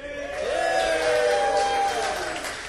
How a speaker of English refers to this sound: So we're all very proud of you. Can we get another cheer